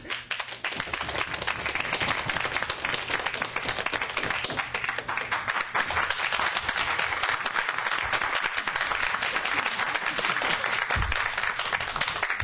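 A debate audience applauds steadily for several seconds to vote on the winning team, dense overlapping claps forming a continuous, fairly loud wash of sound with no voices standing out.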